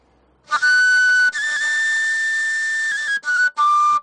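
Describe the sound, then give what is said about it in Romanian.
A shrill, piercing shepherd's horn or whistle signal calling the sheep to the sheepfold sounds alone through a forest of firs and spruces, carrying about 2 km: one long, steady high blast with a slight pitch wobble, then two short bursts, loud and bright with buzzy overtones. “Așa de strident este prin pădure, printre copaci, printre brazi și molizi.”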